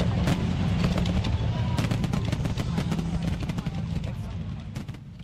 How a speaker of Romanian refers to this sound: Mai rămân până la focul de artificii.